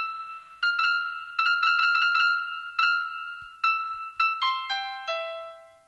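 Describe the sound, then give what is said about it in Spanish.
A musical trill of bright, bell-like electronic notes from a phone: quick alternating tones flutter for a moment, then a few separate struck notes and a short descending run, heard alone without talk. “Y después el trino, que es otro de los...”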